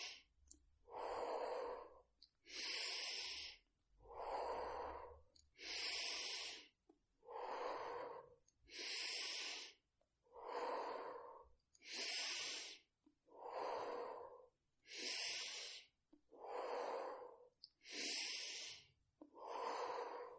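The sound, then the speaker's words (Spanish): Slow, steady breathing in and out by a guide setting the pace for a breathing exercise, clear, with about a dozen evenly spaced breath sounds alternating inhales and exhales, each lasting roughly a second with brief pauses between, and no talking. “Sigue respirando a este ritmo marcado por mi propia respiración.”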